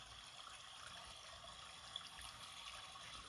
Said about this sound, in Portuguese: Apure seus ouvidos e ouça ao longe o som de água em queda, o barulho característico das águas em movimento.